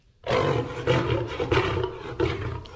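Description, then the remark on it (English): A loud lion roar sound effect rumbles continuously with several surging pulses, deep and growling, with no other sounds around it. “That's Full Spectre Studios' version of lion.”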